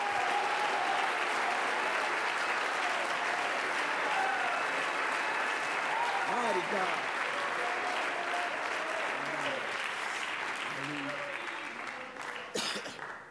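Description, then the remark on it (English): A church audience claps their hands in praise to the Lord steadily for over ten seconds, a dense, loud wash of many hands, with faint voices calling out beneath it before the clapping thins toward the end. “Somebody clap your hands to the Lord right now.”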